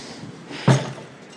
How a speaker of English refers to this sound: We're now inside. Just had to unlock the door, so I needed both hands.